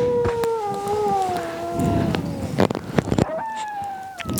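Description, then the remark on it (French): Several wolves howl together in long, overlapping, slowly falling tones, with a few sharp clicks partway through before a fresh howl rises near the end. “Et maintenant, … et … sur le loup.”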